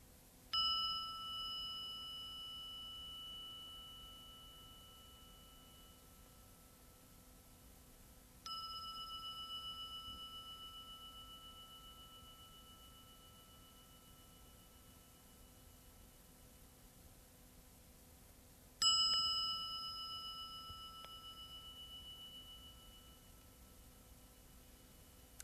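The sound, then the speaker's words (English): A meditation bell is struck three times at slow, uneven intervals, each strike ringing out with a clear, sustained tone that fades gradually over several seconds, with no voices present. “We send our hearts along with the sound of the bell.”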